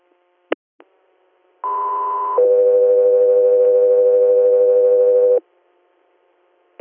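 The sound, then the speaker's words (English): Two-tone radio dispatch alert for unit Echo 3: a brief click, then a steady high tone of nearly a second shifting into a longer, lower held tone of about three seconds, loud and clean, no voices. “Echo 3, you're stand by for tones.”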